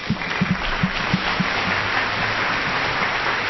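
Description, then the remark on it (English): A steady wash of applause from a crowd, dense and even, with a few sharper low thumps early on that fade as the clapping continues without voices. “None of that applause is from Murdoch.”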